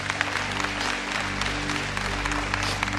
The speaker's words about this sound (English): Because at the end of the day, if they got their clothes, oh, you can clap for the Lord for that.